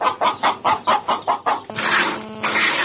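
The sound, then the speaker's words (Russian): Chickens cluck in a quick, steady series of about seven short clucks, followed by a louder, drawn-out squawking call from the flock, on a family farm with goats, pigs and poultry at a rural house near Kostiantynivka, Donetsk region, Ukraine. “І вже рік розводить кіз, свиней і птицю.”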